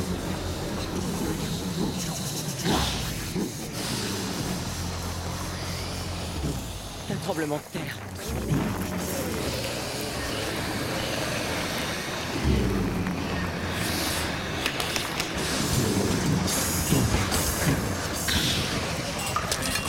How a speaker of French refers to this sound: Séquence impressionnante hein, qui évoque donc le tremblement de terre de 1923.